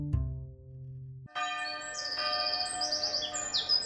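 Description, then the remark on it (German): A deep bell tone fades out, then a lively chorus of many birds chirps and tweets continuously at dawn, greeting the new day on a warm, bright, sunny morning, layered over a soft steady background. “Die Vögel begrüßen den neuen Tag.”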